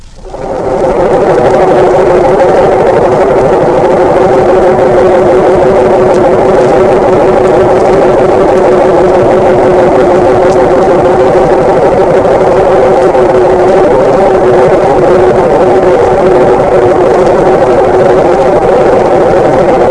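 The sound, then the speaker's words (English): A submarine's diesel engines idle steadily without pause, heard over a hydrophone as if through water, with a constant low mechanical hum and faint rhythmic throb from start to finish. “Diesels idling with sub over the hydrophone.”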